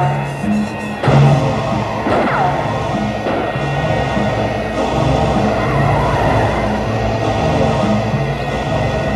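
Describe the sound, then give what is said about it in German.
A car races at high speed into a parking garage, chased by another car, its engine roaring loudly and steadily, with a sharp jolt near the start and a brief squealing whine soon after, dense road noise throughout. “In rasender Fahrt ging es ins Parkhaus hinein.”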